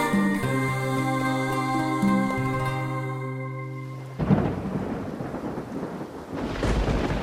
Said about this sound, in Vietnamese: Lại mưa to gió lớn, nước dâng cao nữa rồi con. Con sợ vậy.